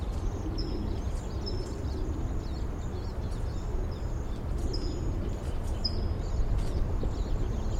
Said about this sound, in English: Recording, I hear a flock of siskins in the back. Perhaps coming this way.